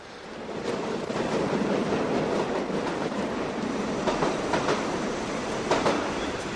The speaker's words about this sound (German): Der Zug fährt ein.